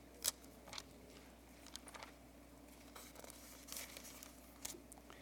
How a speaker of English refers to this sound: Go over to Acts chapter 10. Turn to Acts chapter 10. I hear a few pages rustling. That's good.